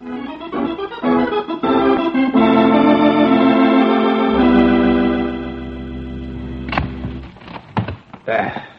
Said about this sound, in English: We set off an alarm. Every bull in New York must be on the streets by now.